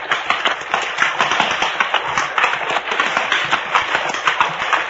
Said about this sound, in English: I hear the running water up ahead. Yeah, here's where we cross. I keep a tight rein. The creek bed has a rocky bottom and your horse is liable to stumble unless you keep his head up. Here we go now. Come on, boy. Come on.